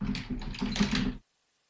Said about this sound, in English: It sounds like you are hitting your keyboard with an anvil. Blues over Kings. Blues. Is that softer? I tried to go a little bit softer there.